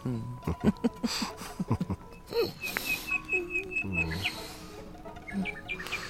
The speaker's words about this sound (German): Hör mal. Die Nachtigall.